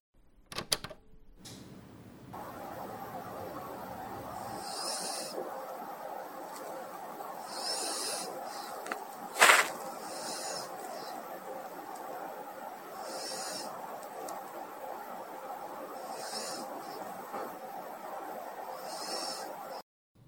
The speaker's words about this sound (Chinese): 她寄来这个声音是她的宠物，她很爱的一只狗狗的打呼声。